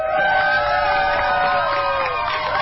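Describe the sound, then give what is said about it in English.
A crowd cheers and whoops continuously, a dense wash of many excited voices with high shouts rising above the roar, loud and sustained throughout, as the gay pride rainbow flag is raised over the Wisconsin State Capitol for the first time, for LGBTQ month. “Sounds of cheers as the gay pride rainbow flag gets raised over the Wisconsin state capitol for the very first time as part of LGBTQ month.”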